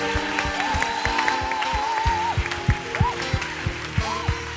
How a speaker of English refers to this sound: Let's give our graduates a big hand clap.